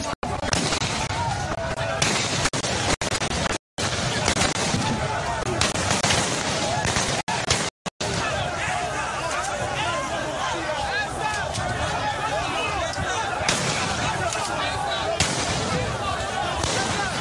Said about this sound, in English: Sounds of gunshots as the protesters came under fire last night. It was unclear who opened fire at the Lekki Lagos toll plaza.